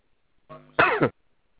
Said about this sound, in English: Yeah, I'm sorry about that. I cough.